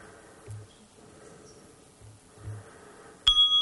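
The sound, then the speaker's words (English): A meditation bell is struck once near the end, giving a clear, bright tone that rings on and sustains after a few quiet seconds of soft low thumps and room hush. “The next time the bell rings, see if your focus is still on the Buddha gazing down on a world of people they are taking care of.”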